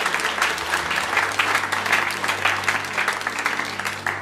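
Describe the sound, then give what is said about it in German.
An audience applauds Jesus during a church service, a dense wash of many hands clapping at a fairly loud, even level for several seconds, with a low sustained musical hum underneath. “Komm, lass uns Jesus mal einen Applaus geben für das, was er tut.”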